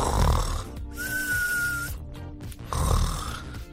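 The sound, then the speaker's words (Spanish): A voice imitates loud snoring: a couple of rasping snore breaths with rattling throat noise, one carrying a thin whistling tone as air is drawn in, with no other speech. “Uno ya está roncando.”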